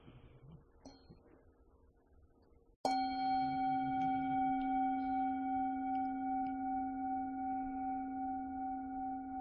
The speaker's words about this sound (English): So I'm going to start it with a bell and just settle in and come home to your breathing.